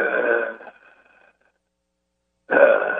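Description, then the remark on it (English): Heavy, raspy breathing over a telephone line: a loud breath that trails off, a couple of seconds of silence, then another loud breath begins. “Oh my God, that breathing!”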